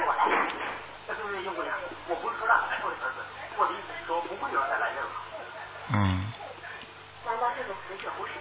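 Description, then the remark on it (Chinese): A television program plays in the background during a phone call, its voices and sound steady and muffled through a narrow, phone-like line with a low hum, and a dull thump near the end. “不，那个电视好像电视里有节目啊。”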